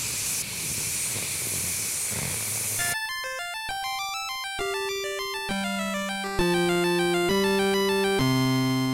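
About three seconds of loud, steady hissing static, played in protest of SOPA on 1/18/2012, then it cuts to a sequence of bright electronic tones stepping through sustained notes of different pitches, growing slightly louder toward the end.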